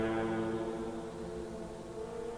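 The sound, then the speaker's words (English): A deep, sustained foghorn tone sounds in the mist, droning steadily with rich, even harmonics, holding at a constant volume for the whole moment with no voices present. “His notable set of fog tropes compositions play with the sounds of foghorns in the mist”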